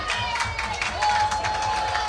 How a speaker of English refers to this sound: Lumen's crowd starting to make noise.